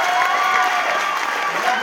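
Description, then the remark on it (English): Steady, loud applause from a concert audience as band members are introduced, a dense wash of clapping that holds at an even level throughout with a faint murmur of cheering mixed in. “Come on, give him a big round of applause.”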